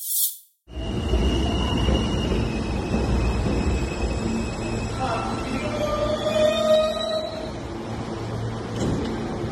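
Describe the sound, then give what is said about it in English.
A steady, loud rumble of a subway train running on rails, with thin metallic squeals from the wheels rising and fading partway through. Faint murmuring voices sit under the noise. “Not because of that, but because he rode a subway without a mask.”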